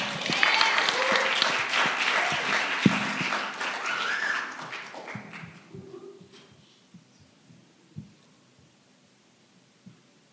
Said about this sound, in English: I'd like to welcome to the stage. Can you please give a huge round of applause for Ruth and Boaz?